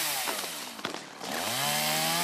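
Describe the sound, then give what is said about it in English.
A lyrebird imitates a chainsaw: a buzzing, revving whine that sputters and dips briefly, then climbs back to a steady, loud drone, with no talking. “Yep, lyrebirds make the sounds of other things. They can do any noises. Like what? Like a chainsaw.”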